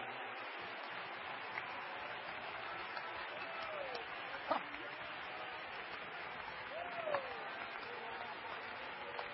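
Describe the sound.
An audience claps steadily throughout as hand praise unto the Lord, a dense, even wash of applause with a couple of sharper, louder bursts and faint voices mixed underneath.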